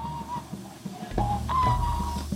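A man whistles a thin, wavering tune close by, the pitch sliding between a few uneven notes, with a low rumbling hum of background noise swelling underneath toward the end.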